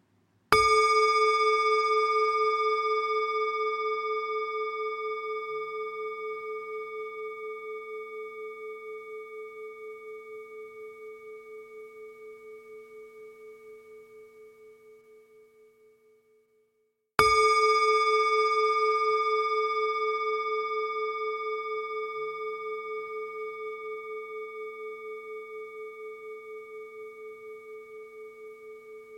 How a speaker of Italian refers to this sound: Esercitati con questi suoni di campana, che devi seguire attentamente fino all'ultimo istante.